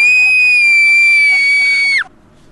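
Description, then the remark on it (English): A loud, sustained high-pitched human scream holds steady for about two seconds, then breaks off abruptly, leaving near silence. “Here is scream number 2.”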